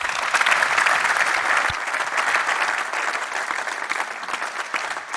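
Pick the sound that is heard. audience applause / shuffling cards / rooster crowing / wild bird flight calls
audience applause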